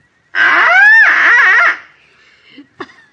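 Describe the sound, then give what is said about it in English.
A duck call blown to sound the mating call of a female mallard, in one long, loud, reedy blast with a wavering pitch that swoops upward and falls off, followed by a few faint clicks and rustles. “I take this trusty little duck call, place it to my lips, and gently and sweetly, I sound the plaintive mating call of a lovesick lady mallard.”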